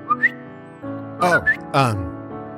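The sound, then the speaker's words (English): A person imitates a bird: two quick rising whistled chirps, then throaty, voiced warbling calls with another short upward chirp between them, fairly loud and without any talking. “Didn't want to scare you, so I guess I just made a bird noise.”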